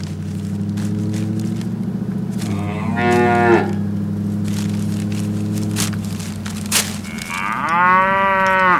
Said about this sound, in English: And now a cow who goes to the Chicken Hut drive-thru and then gets halfway home before realizing they forgot his French fries.